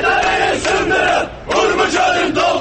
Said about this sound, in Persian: شهروندان تبریز در اعتراض به وضعیت دریاچه ارومیه در خیابان‌ها اعتراض کردند و از رئیس جمهور پرسیدند روحانی وعده‌ها چه شد؟ اونها در اعتراضهایی که ویدیوهاش در شبکه‌های اجتماعی دنیای مجازی منتشر شد شعار می‌دادند سدها رو بشکنید و ارومیه رو پر آب کنید.